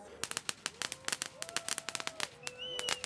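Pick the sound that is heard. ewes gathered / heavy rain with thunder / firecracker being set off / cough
firecracker being set off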